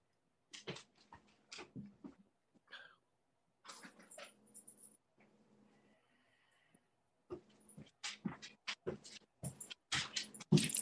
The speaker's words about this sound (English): Oh my gosh, my dog, hold on 1 second. My dog is like crying.